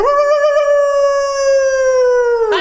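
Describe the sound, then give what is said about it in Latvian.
A person imitates a wolf with one long, loud, steady howl that holds its pitch for over two seconds, then slides down and breaks off with a short breathy burst at the end. “Īsti vilki gaudo.”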